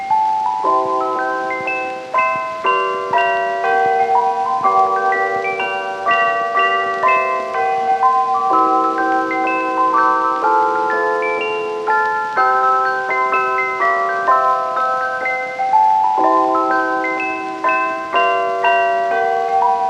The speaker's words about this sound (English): But before I get out and disappear soon, I'll give you a treat. It's a bit of a tune that I'll play on my chimes that I've got with me here. So listen, dear children, to some real Christmas cheer.